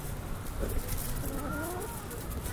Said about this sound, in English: All right, well, I don't want to have a lot of dead air with the chickens.